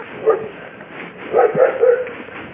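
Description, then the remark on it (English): A bouncy dog barks and yips in short bursts, one early yelp followed by a quick run of three or four excited barks, over a faint background hiss. “Bouncy dog.”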